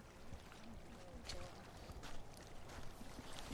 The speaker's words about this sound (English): It's got a hydrophone in the water, picking up the rain and the sound of the water moving. Sounds like kind of glass-ish.